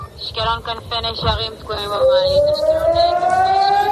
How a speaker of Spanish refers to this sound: Un cohete ha impactado hoy contra el hospital de Ashkelon y las sirenas antiaéreas han sonado incluso en Tel Aviv.